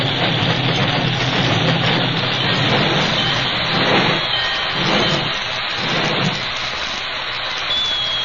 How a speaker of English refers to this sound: As the masked man swung down from the engine cab, the passenger train slowly approached and stopped.